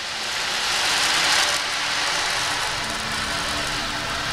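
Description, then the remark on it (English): Beads roll inside an ocean drum, making a steady, hissing wash like surf that swells early on and then settles into a softer, even rush. No one speaks. “The ocean drum is something that really relaxes my nervous system. You want to hear some of that?”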